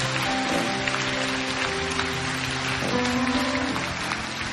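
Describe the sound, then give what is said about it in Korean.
A church audience at a worship service claps steadily for the fathers for several seconds, a dense, even wash of many hands with no pauses, while a soft sustained musical tone hums underneath. “우리 아빠들을 위해서 박수 한번 쳐주셨으면 좋겠어요.”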